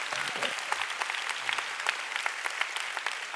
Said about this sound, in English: Woo! Come on, you want to clap? Let's give the Lord a big hand.